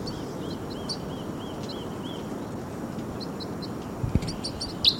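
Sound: birds chirping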